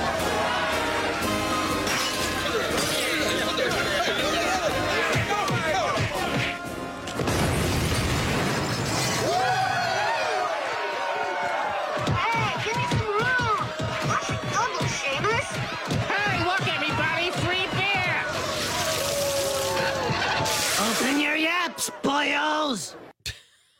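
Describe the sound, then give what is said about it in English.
A loud bomb explosion from The Simpsons, a bomb thrown by Irish men at a fish and chips shop in Springfield on St. Patrick's Day, bursts out with a deep boom and crashing, shattering debris, set amid excited crowd voices and shouting that carry on throughout before cutting off abruptly. “And the explosion you heard was a bunch of Irish guys throwing some type of bomb at a fish and chips place.”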